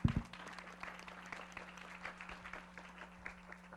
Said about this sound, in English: I think you really deserve warm applause for the presentation.